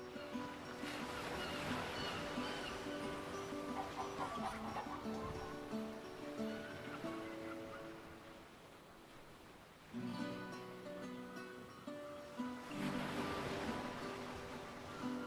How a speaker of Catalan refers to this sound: Sentes la mar? M'encanta això, eh?